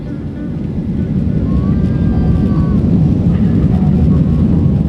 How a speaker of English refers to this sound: The plane bumps and sways during takeoff.